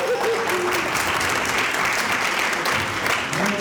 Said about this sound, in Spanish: Pero aplaudan. ¡Apláudenle!